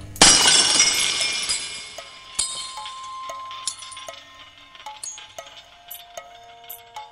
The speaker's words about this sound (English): Then I do what I've never done. I drop not one, but 2 new 6-foot bulbs, which pop when they hit the floor. White glass, flying like confetti.